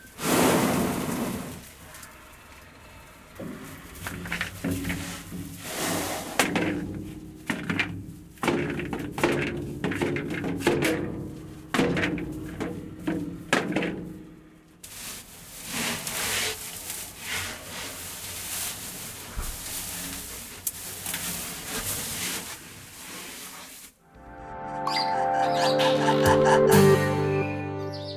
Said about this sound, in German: wenn der Elefant mit dem Rüssel ins Loch hineinlangt und die Kugel hin und her schüttelt